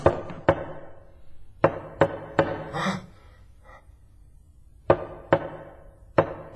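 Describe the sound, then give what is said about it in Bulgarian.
Sharp, ringing knocks on glass come in short clusters of two or three with pauses between, and a brief breathy sound falls in the middle gap. No one speaks. “Хайде, не те е видял, ще потропаш ли? Хайде, хайде, по стъклото ли? По стъклото!”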